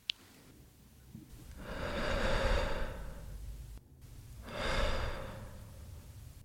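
Two slow, deep breaths, each a long airy swell of noise that rises and fades, separated by a brief pause, with a faint click at the start and no speech; part of R-Voix, a short sound creation made from breathing, whispering and movement for radio listening.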